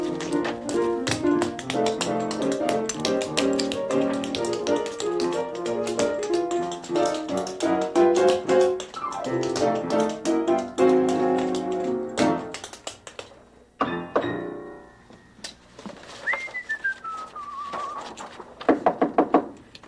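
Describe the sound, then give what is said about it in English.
Music with rapid tapping fades out, then a brief quiet stretch with a rising-and-falling tone gives way to a short burst of loud knocks on a factory door at the very end. “Somebody knocking on my factory here?”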